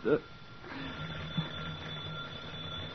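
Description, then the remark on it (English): A telephone rings with a steady, buzzing bell tone that carries on without a break, just after a short louder burst at the start. The ringing is fairly quiet and has no talk over it. “The phone. Who would... Shall I answer it?”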